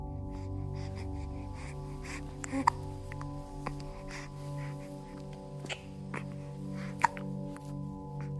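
baby hiccuping

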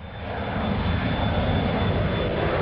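airplane engine

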